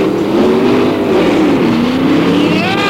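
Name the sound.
car speeding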